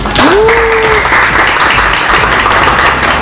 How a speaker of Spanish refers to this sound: Espero que lo disfruten. Muy bien. Un aplauso.